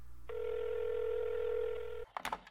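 A steady, buzzing telephone tone holds for about two seconds, then cuts off abruptly into a few quick clicks and clatters, like a receiver being picked up.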